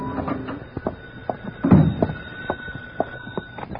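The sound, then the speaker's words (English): An apartment door being unlocked and opened at 10 at night: a series of small metallic clicks and rattles, a heavier thunk partway through, then more scattered clicks, with no talking. “My phone was ringing when I unlocked the door of my apartment at 10 that night.”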